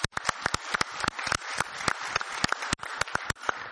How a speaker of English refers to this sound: And let me give all our panelists a round of applause here.